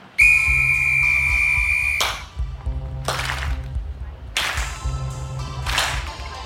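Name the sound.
whistle blown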